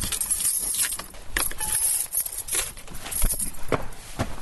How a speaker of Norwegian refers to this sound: Vi har tre digre knipper, pluss mange små knipper, så vi har vel nøkler til alt I parken, ja. Skal vi låse opp døra?